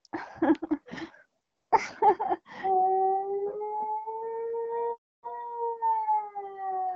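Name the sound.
dog howling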